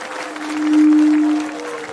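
A crowd claps steadily for a couple of seconds, a dense, even patter that swells slightly in the middle, with a faint sustained hum running underneath.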